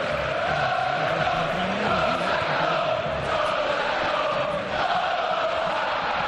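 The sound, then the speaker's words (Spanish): Atlético de Madrid supporters at the Calderón stadium chant in unison during the final stretch of a match, a dense, steady roar of many voices with a sustained sung pitch running through it, loud and unbroken for the whole stretch. “Era el tramo final del partido, Corro, cuando comenzaron esos cánticos.”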